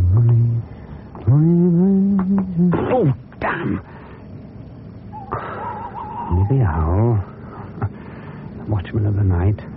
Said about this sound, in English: Stupid bird. Hop off and catch yourself a mouse.